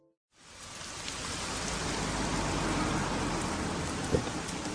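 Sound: steady rain falling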